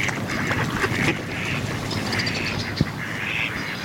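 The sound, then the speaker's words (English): Several ducks quack in a loose, overlapping chorus, with a steady watery background murmur and one brief sharp knock near the end. “Ducks sleep while floating in protected bays.”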